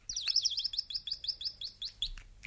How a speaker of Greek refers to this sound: Πάνω στη στέγη του σπιτιού του καθόνταν δύο πουλάκια και κουβεντιάζαν και έλεγαν.